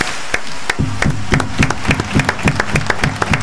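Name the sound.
applause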